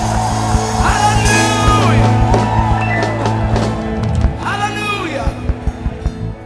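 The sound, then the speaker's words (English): An audience shouts praise to the Lord together in a loud, sustained roar, with rising whoops and yells cutting through and a few sharp claps near the end. “Shout to the Lord with a shout of victory.”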